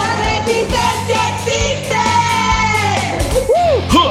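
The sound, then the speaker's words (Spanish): A woman gives a loud, sustained shout that fills the whole clip, a strained yelled cry held for several seconds, ending in a couple of short rising-and-falling whoops. “todas feministas, chilangas, renegadas del feminismo, como ella sí misma se presenta y dando este grito.”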